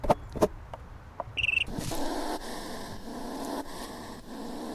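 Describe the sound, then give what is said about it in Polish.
A few sharp clicks and a short high beep, then a hedgehog's steady defensive huffing: rough, breathy puffs and snorts in a fast, uneven rhythm, fairly loud and without any talking. “Tak się broni jeż.”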